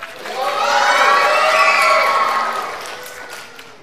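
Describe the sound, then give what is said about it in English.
The green team of children cheers loudly together in a team cheer contest, a sustained, high-pitched roar of shouts that swells for about two seconds and then slowly fades away. “on my little point system, the green team got 8 points for energy, 10 points for volume, 7 points for participation, bringing us to a total of 25 points for green on their cheer.”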